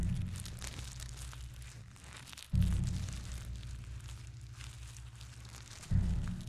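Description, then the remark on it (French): Dry leaves crunch and crackle steadily underfoot as a person walks through them, with a couple of heavier, slow footfalls pressing into the pile. Fairly quiet, with no voices. “Qu'est-ce que c'est agréable de marcher dans des feuilles.”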